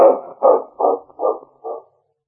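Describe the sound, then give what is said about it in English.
A dog barks five times in a steady rhythm, each bark a short, loud burst of mid-pitched woofs, fading slightly by the last one, with no talking. “I gotta put this dog in the cabin quick.”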